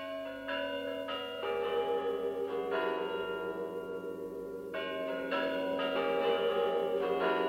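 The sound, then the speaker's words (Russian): The Spasskaya Tower clock in Moscow chimes before the New Year, a resonant melody of bell tones, each strike ringing out and overlapping with long sustained decay, loud and alone with no voices. “Это на Спасской башне часы звонят.”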